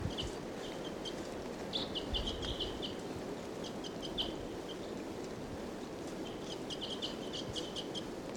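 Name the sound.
wild bird calling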